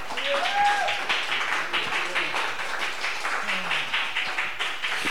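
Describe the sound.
Sustained audience applause at the close of a night's event, a dense steady patter of many hands clapping at an even loudness, with a few brief whoops and cheering voices rising above it near the start.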